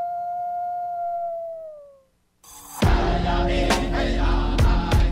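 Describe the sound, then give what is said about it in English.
A single long wolf howl holds a steady pitch, then droops slightly and fades away over about two seconds; after a brief silence, loud music with percussive hits begins. “Minnesota wolves deserve to be protected and admired. Learn more at howlingforwolves.org. Let's live and let howl.”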